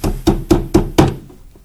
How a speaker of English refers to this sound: Little boy comes. Now we hear a knock. It's a little boy from downstairs.